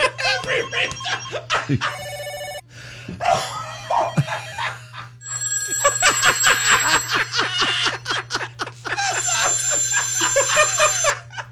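A string of phone ringtones plays fairly loudly in quick succession, bright electronic melodies and chirpy trills changing every few seconds over a steady low hum.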